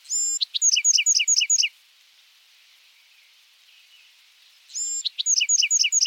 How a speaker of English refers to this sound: Each adult male Buick's wren has his own set of songs.